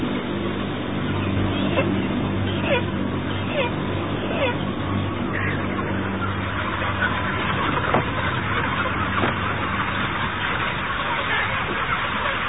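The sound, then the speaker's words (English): A crowded house of heavy broiler chickens, many able to take only a few steps before plopping down, a dense steady murmur of many birds over a constant low mechanical hum like ventilation fans, with a few brief sharper calls standing out now and then. “A lot of these chickens here, they can take a few steps and then they plop down.”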